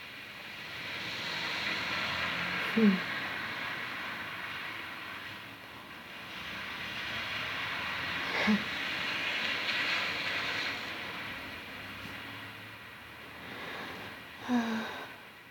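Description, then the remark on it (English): Cars swish through street puddles, their wet tires making broad hissing whooshes that swell and fade in about three long passes, each marked by a brief splashy click. No one speaks. “I like the sound it makes when the cars drive through the puddles in the streets. It's nice. It's just a whoosh.”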